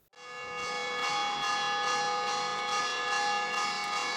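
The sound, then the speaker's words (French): An alarm bell rings continuously and loudly, its sustained metallic clang holding steady with a slight pulsing rhythm throughout, with no voices present. “La cloche pour l'alerte continue à sonner.”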